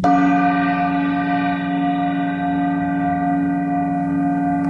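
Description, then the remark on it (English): A small 10-inch gong is struck once at the start. Its bright metallic ring hums steadily with layered overtones and fades only slightly over several seconds, fairly loud with no voices. “Here's a small 10-inch gong.”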